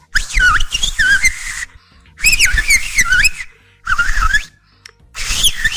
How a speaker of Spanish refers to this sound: y está el silba gomero, que se habla en las Islas Canarias. ¿Por qué se hablan en silbidos? Porque son cadenas montañosas, entonces de aquí a que van por allá, entonces empiezan a hablar en silbidos.